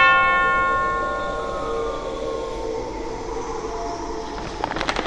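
A silver hammer strikes a statue's metal bell once, and its bright overtones ring out and slowly fade over several seconds, with a low rumble and faint clattering near the end.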